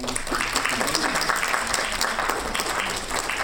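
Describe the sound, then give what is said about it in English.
An audience claps for the tutors, a dense, sustained patter of many hands holding at an even, moderate loudness for a few seconds with no voices standing out. “Perhaps we should just give the tutors a round of applause.”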